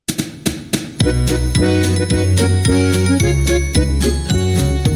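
Opening of a festive Christmas song: a few sharp jingling taps, then a full, bright band kicks in with steady bass notes and rhythmic bell-like strikes, all instrumental with no singing yet.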